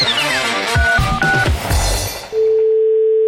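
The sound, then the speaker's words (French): Busy electronic beeps and clicks, like a phone number being dialed, give way to a single steady telephone tone that rings on alone and fairly loud until the end, as a caller phones a car garage. “Il appelle un garage pour magouiller un dossier.”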